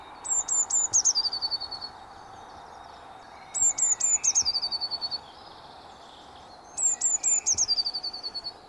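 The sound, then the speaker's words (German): A blue tit sings three times, each phrase a few thin, high notes followed by a fast descending trill, with short pauses between, clear over a soft outdoor background. “Dann hören wir uns die Blaumeise doch gleich im Vergleich auch nochmal dazu an.”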